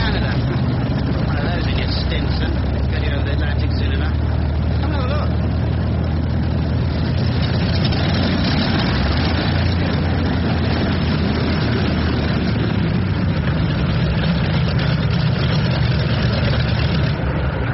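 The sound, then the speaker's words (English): A large new Tornado airship engine, originally built as a train engine, runs steadily and loudly, a continuous deep rumbling drone that holds without pause, with indistinct voices faintly mixed beneath it. “There's the new tornado engine.”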